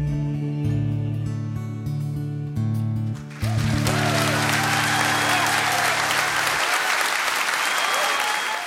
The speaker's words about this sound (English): Round of applause from all of us here in the studio there